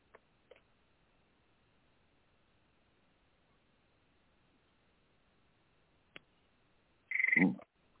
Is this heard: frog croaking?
yes